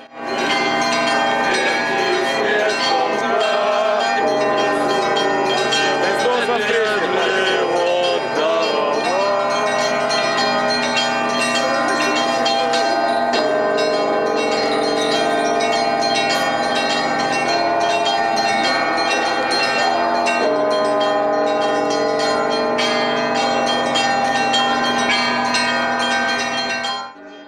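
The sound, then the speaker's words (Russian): Church bells ring out from the main bell tower in Ryazan during an Easter procession, a full, continuous peal of many overlapping strikes blending into a loud, shimmering wash of tones that carries on steadily with no voices. “Главной рязанской колокольни радостно перемешивался с торжественными песнопениями, тропарем и молитвами, которые исполнял хор духовенства епархии.”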